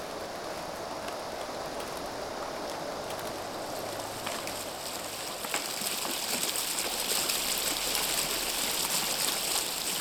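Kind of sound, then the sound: nature, flowing river water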